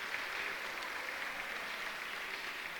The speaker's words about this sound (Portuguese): Ainda falta um montão de gente, falando aos pouquinhos, uma salva de palmas a todos que estão presentes.